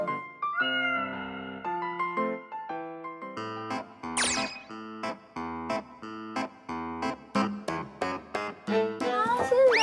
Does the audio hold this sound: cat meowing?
yes